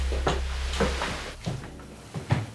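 A door is eased open slowly, with a few soft clicks and faint knocks from the latch and hinges spaced out over a couple of seconds, over a low steady hum.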